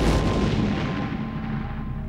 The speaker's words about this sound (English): The ensuing explosion killed 38 people. Hundreds more were wounded.